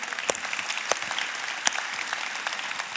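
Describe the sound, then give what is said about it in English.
A crowd claps steadily for about three seconds, a dense even patter of many hands with a few sharper individual claps popping out. No voices are heard over it. “And listen, you're going to want to clap several times in this, so just hold off until the end, okay?”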